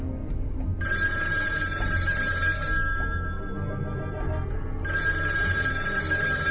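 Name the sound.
telephone bell ringing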